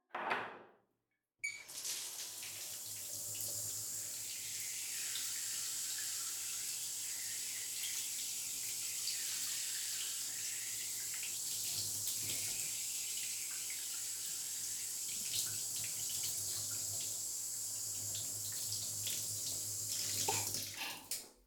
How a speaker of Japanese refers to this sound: それじゃあ、まず頭を洗ってあげるね。はい、目をつぶって。シャワーかけるよ。